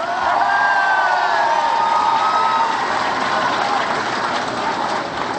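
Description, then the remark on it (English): A large crowd at an event in Michigan cheers and applauds loudly and steadily for Senator Carl Levin, with a few high whistles rising above the dense roar early on before the noise holds level. “Give it up for Carl Levin.”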